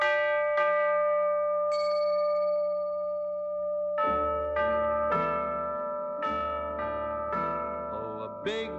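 Orchestral music built around ringing bells: a few high, bright strikes at first, then a run of fuller bell tones with long decaying rings over sustained instrumental chords.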